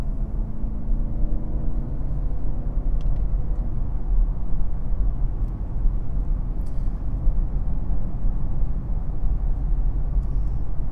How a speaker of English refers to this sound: So I got fourth gear, third gear. There we go, with a little bit of a power slide out of that corner. Really had to work at that. Listen to that engine, 4,000.